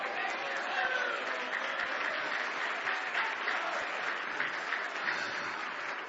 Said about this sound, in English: Are you going to clap your hands whether you feel Him or not?